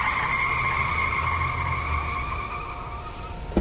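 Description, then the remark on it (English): A taxi's tires screech in a long, steady high-pitched squeal with a low engine rumble beneath, fading slightly before ending in a brief thump as it stops. No one speaks. “Let's grab a taxi and head that direction.”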